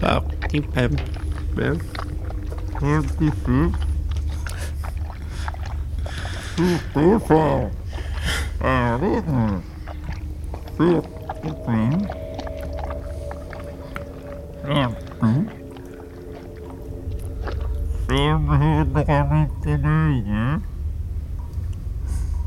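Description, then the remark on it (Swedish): Feet stomp down repeatedly, each step giving a gritty crunch into the ground, with a person talking in between the stomps. “Och sen jag stampar liksom, den. Hör jag att den krasar eller vad?”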